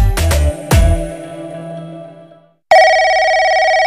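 A telephone rings loudly: a few sharp, bell-like strikes that ring out and fade, a brief gap, then a steady, bright electronic ringing tone. No one speaks.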